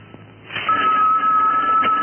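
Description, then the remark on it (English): A telephone rings with a steady, insistent electronic tone that starts after a brief quiet moment and continues loudly to the end, with no talking. “it's ringing, honey.”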